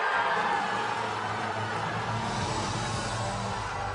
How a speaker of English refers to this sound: And that was back in 2010. You hear all the cheers.